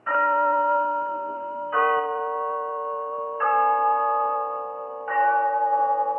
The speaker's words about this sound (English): Yes, there's the clock in Glen Falls Town Hall, telling us it's time for Rinso's story of Big Sister, brought to you by Soapy Rich Rinso.